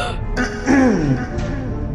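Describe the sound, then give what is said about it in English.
A strained burst of coughing and a ragged, wheezing gasp as a person pulls themselves out of a river and expels river water from their lungs, loud and harsh for a moment before easing off, over a steady low background rumble. “Yeah, and as tough as coughing is to hear and do, we do just do some of that as you expel all of the river water from your lungs.”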